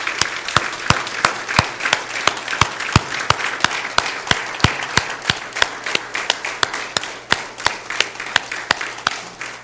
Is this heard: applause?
yes